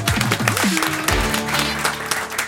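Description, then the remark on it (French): A theatre audience breaks into steady, dense applause as comedian Noémie Delattre is introduced, filling the whole moment, with music or tonal sounds running underneath the clapping. “Applaudissez Noémie Delattre.”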